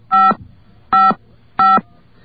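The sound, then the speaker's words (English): Three telephone keypad dialing tones from buttons pressed on a telephone during a call, each a short, steady electronic beep, sounding loudly in an even rhythm with brief silences between them and no voices. “Let's hit some buttons.”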